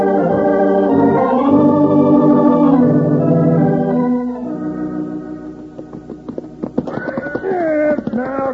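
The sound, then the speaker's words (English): A skittish horse named Joker whinnies loudly and repeatedly, its high wavering neighs rising and falling, while hooves clop in quick uneven beats, sounding restless and agitated. “Since we brought that other horse along for your grandpa.”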